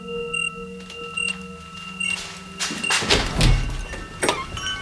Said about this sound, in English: Something is wrong. The door. It's for me.